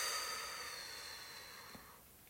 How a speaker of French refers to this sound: Prenez une grande inspiration par le nez et une grande expiration par la bouche.